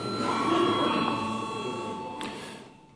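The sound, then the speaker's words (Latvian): A chairman's bell in the Latvian Saeima rings steadily for a vote on a proposal by Health Minister Anda Čakša, a sustained, bright, buzzing electric tone that holds for about three seconds over a low murmur of voices before tapering off. “Paldies, lūdzu zvanu.”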